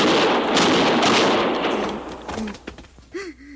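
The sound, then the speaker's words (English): A loud revolver gunshot sound effect for a radio show, played on a Mackenzie machine, where a .45 was used for Matt and a .38 or .32 for the heavies, opens with a broad, roaring blast that slowly fades, followed by a few sharper cracks and short whining, ricochet-like tones near the end. No one speaks. “So we had, on a Mackenzie machine, I think the boys called it in those days, we had Matt's gun, and we always used a 45 for Matt, and for the other heavies, there would be a 38 or a 32.”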